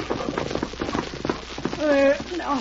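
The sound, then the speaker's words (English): Horse hooves of an old horse pulling a wagon clip-clop in a quick, steady rhythm on a hard surface, then slow and stop as the wagon is reined up, followed by a brief voiced call over faint background noise. “Rein up before that old horse falls over.”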